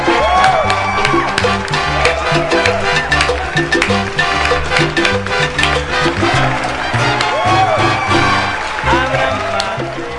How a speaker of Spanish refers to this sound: Bueno, señoras y señores, hoy comienza el Gallinero. Así que abran paso. Abran paso, todo el mundo. ¡Miren! ¡Aplauso,